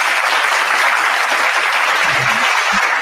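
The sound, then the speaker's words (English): A steady wash of applause from many hands, given to show appreciation for the listeners' support as a co-host is introduced, loud and dense throughout, with a few low thumps and a brief murmur near the end. “Make him clap to this. To show our appreciation for your support.”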